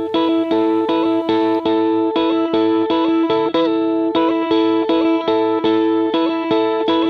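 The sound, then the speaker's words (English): A loud indie rock song by a Manchester band plays, driven by thick, chorus-soaked and distorted guitar chords that change in a steady rhythm. There is no singing or talking. “But the Richard Kent style, Manchester band, how cool is that?”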